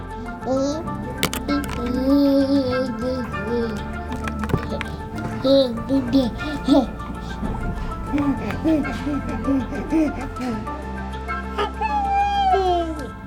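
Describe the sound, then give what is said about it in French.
A baby babbles and coos in short, rising and falling bursts, layered over steady sustained musical tones that continue throughout. “Je m'appelle … et je vous propose de vous mettre à l'écoute des bébés.”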